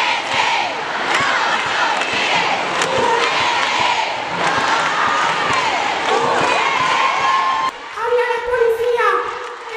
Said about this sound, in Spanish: Se han unido a la diosa Afrodita grupos feministas de extrema derecha y gritan sus consignas.